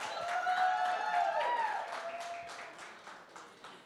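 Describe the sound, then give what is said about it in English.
A church audience claps unevenly, the scattered applause mixed with a few whoops and cheering voices before thinning out and trailing off over a few seconds. “Did you know the thing about an applause? There is timing required for applauses. And y'all butchered it, right?”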